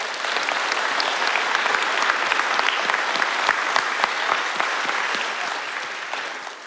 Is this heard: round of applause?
yes